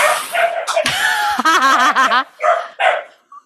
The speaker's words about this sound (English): It's the dogs are playing and Puffin's pissed.